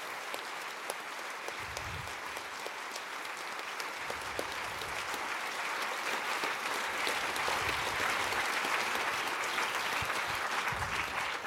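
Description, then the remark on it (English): Sustained audience applause, a dense wash of many hands clapping steadily for over ten seconds, loud and even, swelling slightly toward the end with no voices rising above it, for the volunteer workers who helped tear down the event. “So I would appreciate a lot of applause for all the working angels that helped and will still helping to tear down this event.”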